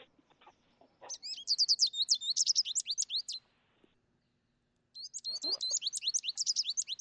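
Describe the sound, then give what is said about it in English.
An American goldfinch calls in rapid, high twittering bursts, a long run of bright chirps, a short pause, then another quick series, clear with no talking. “Well, we've got the American goldfinch up. I think Tyler's got it. Let's hear that call.”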